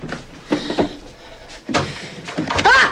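A cupboard door being handled and shut after a stuffed animal is put into the cupboard, now full of stuffed animals: a few short wooden knocks and clunks spread over a few seconds, ending in a louder thump with a high, creaky squeak.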